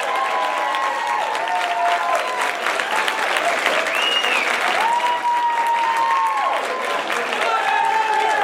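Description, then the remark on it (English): Steady, dense applause from a crowd for comedian Owen Benjamin at the close of the show fills the whole stretch, loud and continuous, with a few whoops and raised voices rising above the clapping. “Clap it up. They liked it.”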